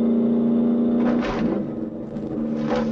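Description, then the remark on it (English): The engine of a 1968 green Mustang Fastback driven by Steve McQueen roars as it speeds through steep city streets in a film car chase, pursued by a black Dodge Charger: a loud, deep, steady growl with a droning low tone, broken by two bursts of harsher noise as it revs. “speeds through the steep city streets in his 1968 green Mustang Fastback.”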